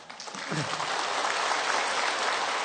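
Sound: audience clapping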